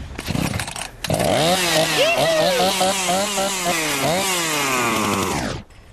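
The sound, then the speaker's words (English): A lawnmower engine sputters and catches after a brief rattle, then runs loud, its pitch rising and dipping as it revs for several seconds before cutting off abruptly. “One out of three is going to start. You hear that? It doesn't start. It's alive!”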